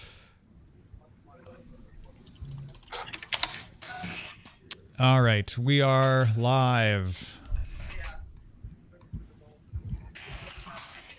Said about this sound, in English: Ah. This sounds like office noise. That makes sense.